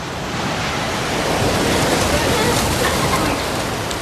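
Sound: ocean waves and surf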